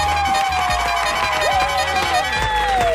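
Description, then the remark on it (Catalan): A crowd breaks into loud, sustained applause on the APM morning show of Catalunya Ràdio, dense clapping mixed with cheering, while a bright musical tone rises and slides above it. “Un aplaudiment per l'Elisenda Carot.”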